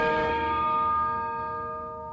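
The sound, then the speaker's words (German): A single resonant gong strike, a jingle introducing Schalke youth academy news and dubbed the holy gong of the holy trainer Norbert Elgert, rings out alone, its sustained metallic tones humming steadily and fading slowly over a couple of seconds. “Ja, der heilige Gong vom heiligen Trainer.”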